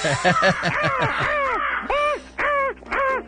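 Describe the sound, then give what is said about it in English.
Crows caw loudly, first in a quick burst of overlapping harsh calls, then three longer drawn-out caws spaced apart. “But the crows dig it.”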